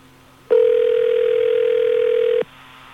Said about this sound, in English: Calling Kiss 106 to ask about the new … song. I hate when DJs are cocky and don't answer the phone.